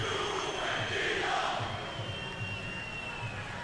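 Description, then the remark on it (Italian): A large stadium crowd at a Juventus versus Cagliari football match roars steadily while shrill, sustained whistles aimed at the player Ken ring out above the noise, some rising in pitch, with a low rhythmic rumble of voices underneath throughout. “Ken, fischi per lui.”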